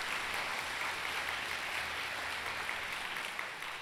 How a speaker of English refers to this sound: The largest, yes. Give yourself some applause.